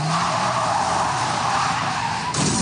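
A car driven well over the speed limit skids hard on a curve, tires screeching in one loud, continuous squeal over a roaring engine, shifting abruptly just before the end. No one speaks.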